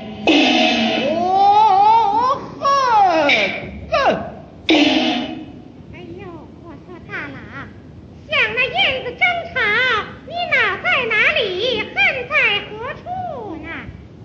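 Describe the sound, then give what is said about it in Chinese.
Loud baby cries from several babies fill the first few seconds with shrill, wavering wails, fade briefly, then return as a run of choppy, overlapping cries through the end. “那些两口婴儿真吵闹。”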